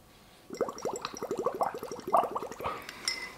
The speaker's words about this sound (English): Nice, consistent stream of bubbles, and just you can add on to it.